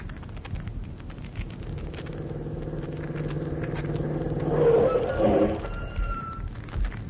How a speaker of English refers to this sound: Well, we can drive to Quarry Road in half an hour. Come on, hop in the car.